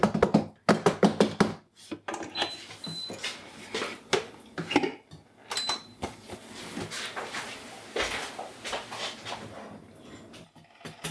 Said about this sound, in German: Ich bin zu schüchtern, was das Anbraten angeht. Kannst du nicht mit einem Metallding in eine beschichtete Pfanne? Aber es dampft schon. Der Sesam wird verprügelt.